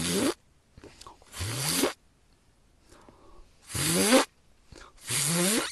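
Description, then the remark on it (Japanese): A beatboxer imitates a zipper with four sharp, buzzy mouth bursts, each a brief rising rasp, arriving in two pairs with short pauses between them and no talking. “ジッパーサウンドなんか出ないもんな。”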